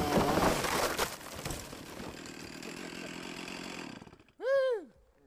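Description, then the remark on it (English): A chainsaw roars loudly, then settles into a steady buzzing drone as it saws through the trunk of a big redwood tree to take a sample, cutting off near the end, followed by a short whining tone that rises and falls. “Sawing through the big tree takes a long time. Stripling has to stop regularly to clear the thick redwood sawdust clogging the chainsaw”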